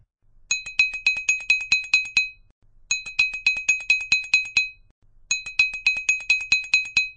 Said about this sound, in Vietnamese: Đúng vào lúc đó, tiếng chuông vang lên.